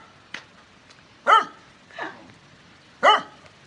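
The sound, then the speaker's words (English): Dogs bark in a few sharp, separate bursts spaced irregularly over several seconds, with two louder barks standing out and a fainter one between them, and no voices. “Looking? Looking? All the dogs looking.”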